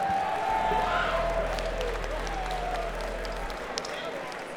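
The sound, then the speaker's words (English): An audience applauds the event's hosts in a steady round of clapping with crowd noise, a low hum underneath and a thin descending whistle-like tone, fading slightly toward the end. “Let's give them a really nice round of applause for having us all here for such a great time.”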